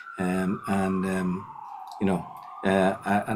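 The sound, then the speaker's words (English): An emergency siren wails steadily in the background, its tone sliding slowly downward, while a person talks in bursts over it in the foreground. “You hear the sirens going in the background.”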